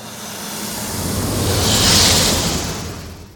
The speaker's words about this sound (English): This bass layer is the car pass-by that I made to layer under all these and sort of give them consistency. So here's a version of the TIE Fighter sound that instead of the elephant, I played a snake sound.